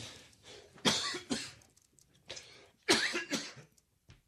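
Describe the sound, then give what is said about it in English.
Two clusters of harsh, forceful coughs, each a sharp burst followed by a few quicker hacking coughs, slightly off-mic with no talking, from a person on air who rolled about 4 feet to the left to cough because the cough button does not work. “That's why I'm rolling 4 feet to the left to cough, because our cough button doesn't work.”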